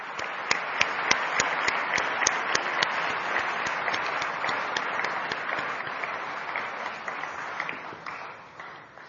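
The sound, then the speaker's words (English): A crowd applauds steadily, dense clapping filling the space with a few sharper claps standing out, holding strong for most of the stretch before tapering slightly at the end. “A big round of applause, please.”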